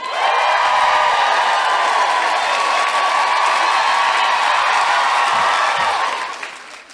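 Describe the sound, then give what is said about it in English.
A loud, sustained wall of live audience cheering and applause with whoops mixed in, at a show in Sydney, Australia, holding steady for about six seconds before fading away at the end. “I always feel with guilty feminist audiences, when you come out and you are just a wall of sound, I feel like if I went, let's go out and overturn a bus, you'd be like, yes!”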